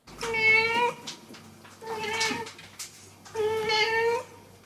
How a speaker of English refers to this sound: We have two cat sounds. One is a cat who wants food, and one is a cat who is stuck behind the door. So which one is the cat who is stuck behind the door? Here is cat number one.